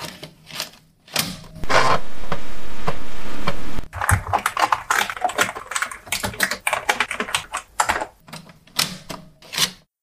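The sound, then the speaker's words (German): Rapid clicking of keys on an Amiga 500 computer keyboard, a steady run of sharp keystrokes with a brief flatter, sustained stretch early on, no voices. “Hier sind 10 Sekunden Nostalgie mit Amiga 500 Geräuschen.”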